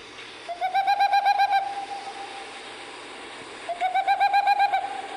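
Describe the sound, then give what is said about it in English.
A boreal owl's call played back through a smartphone: two bursts of rapid, evenly spaced hooting notes, each lasting about a second, with a short pause between, clear and fairly loud over faint background hiss. “So this is a little taste of what, you know, if I were looking for the Civita capograsso boreal owl, this is what I'd hear when I played my smartphone.”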